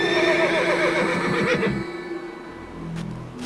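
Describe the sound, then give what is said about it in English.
A horse named Midoro, the best horse in a lord's army, whinnies loudly, a long wavering neigh that trails off, followed by faint snorting and shuffling afterward. No one speaks. “He's the best horse in my entire army.”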